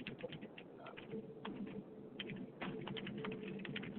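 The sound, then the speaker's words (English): Quick, irregular clicks of someone typing notes on a computer keyboard, fairly quiet, with bursts of keystrokes over a low, steady background murmur. “I'm typing this down to make sure that we get this out on Facebook”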